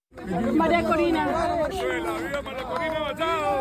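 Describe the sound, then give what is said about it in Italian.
Overlapping voices of a small crowd of supporters of Maria Corina Machado chatter continuously and excitedly as she leaves the White House, several people talking at once at a steady, fairly loud level with no single voice standing out. “Maria Corina Machado lascia la Casa Bianca tra una piccola folla di suoi sostenitori.”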